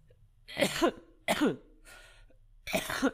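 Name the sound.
coughing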